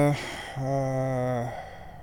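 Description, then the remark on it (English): An air conditioner starting up: a short blip, then a steady, low, buzzy motor hum that holds for about a second before dropping away into a soft hiss. Nobody talks. “Is that my air conditioner? Yes, thank God. Now let's get some coldness happening here.”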